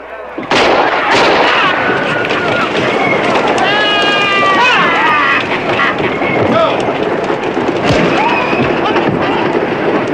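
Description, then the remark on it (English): A single loud gunshot cracks out near the start, followed by a dense, noisy commotion with rushing, wind-like rumble and raised voices carrying on throughout. “He hears a shot.”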